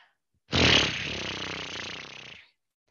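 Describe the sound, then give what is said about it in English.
A person imitates the way horses blow out air when letting adrenaline out, one loud, breathy lip-fluttering rumble that lasts about two seconds, starting strong and easing slightly before stopping abruptly. “So one of the things that I learned from my horses is when they're letting that adrenaline out, they go like this.”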